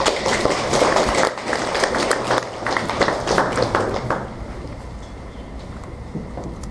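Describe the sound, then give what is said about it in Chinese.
An audience at an event of the KSC alliance (Kingsoft Software Club) of the School of Electrical Information breaks into steady applause welcoming the alliance's chair, a dense wash of many hands clapping that holds strongly for about four seconds, then thins and softens toward the end. “大家掌声欢迎”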